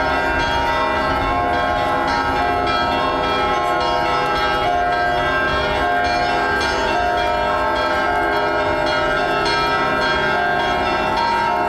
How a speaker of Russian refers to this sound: Успенский кафедральный собор встретил православных колокольным звоном.